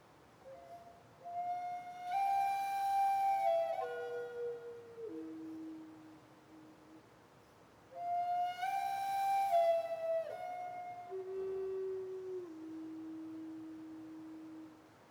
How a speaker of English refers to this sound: This is the wolf call.